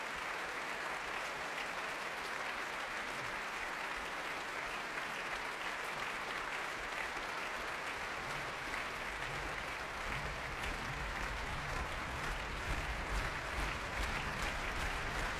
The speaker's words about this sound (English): Pavel Yervi brings the Orchestre de Paris to its feet as he and Janine Jansen take the applause here in the Royal Albert Hall.